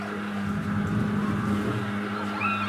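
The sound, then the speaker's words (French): A street disinfection fogging truck, used to kill cockroaches and mosquitoes, drones by, its loud, steady engine and buzzing machinery holding a constant low hum throughout, with no voices. “Ah, ce bruit, c'est le camion qui sert à désinfecter les rues.”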